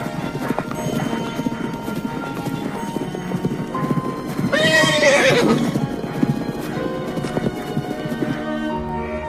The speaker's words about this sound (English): The two horses canter beside the lake.